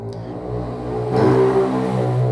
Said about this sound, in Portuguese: Eu não sei qual é a graça desses barulhos de moto, mas tudo bem.